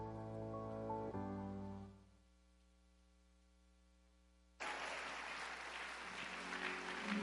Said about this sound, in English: If you are clapping for Jesus, can you please lift those hands?